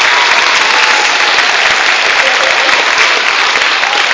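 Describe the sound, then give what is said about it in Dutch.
Steady, loud applause from an audience for all the teachers, a dense wash of many hands clapping continuously for several seconds without a break and no voices standing out. “Zowel vast maar een applaus voor alle leerkrachten die dit en zometeen allemaal hebben gedaan.”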